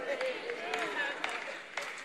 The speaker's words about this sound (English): Come on, who's clapping? That one person over there. Thank you.